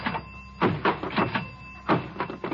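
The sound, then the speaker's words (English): A diving board at a swimming pool being tested by bouncing: a series of springy, creaking thumps in an uneven rhythm, each with a clattery rattle, moderately loud, with no voices. “I'm testing the diving board.”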